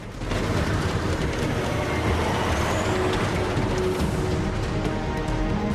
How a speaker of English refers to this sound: Jack takes advantage of a passing truck